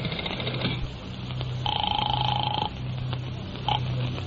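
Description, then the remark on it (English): A telephone being dialed to call a hotel: a steady electronic tone holds for about a second, then a short beep follows, all over a low background hum with no voices. “I'll phone the hotel.”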